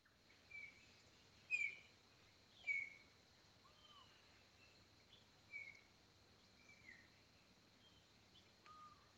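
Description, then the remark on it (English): Several birds sing in a quiet dawn chorus in Buena Vista, Santa Cruz, Bolivia, on September 26th, with scattered clear whistles and chirps at intervals over a steady high insect hum and soft background hiss. “So yeah, this is from Buena Vista, Santa Cruz, Bolivia on September 26th. And pay attention to the birds because it's pretty cray cray.”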